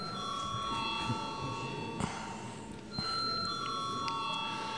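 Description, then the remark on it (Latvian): The voting bell in the Latvian parliament (Saeima) rings continuously for several seconds before a vote on a bill. It is a steady, sustained metallic tone at moderate volume, with faint room murmur underneath. “Paldies, lūdzu zvanu.”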